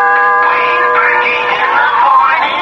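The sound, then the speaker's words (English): A doorbell at a house, pressed by a visitor, rings out loud, a steady, sustained tone held for a couple of seconds with a rough, noisy wash layered over it. No one speaks. “I pressed the doorbell and...”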